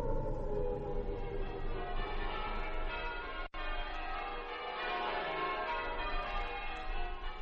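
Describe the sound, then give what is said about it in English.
A dense peal of church bells rings out on the last day of the old century, overlapping tones sustaining and clashing, briefly cut off by a sudden gap midway before the ringing resumes. No voices are heard. “As the bells rang out on that last day of the old century, they did not ring out the end of one era and the beginning of another.”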